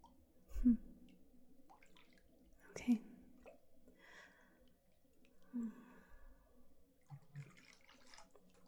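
Quiet water sloshing and splashing gently in a bath, with a few soft swells and drips, low in level, with faint breathy sounds between.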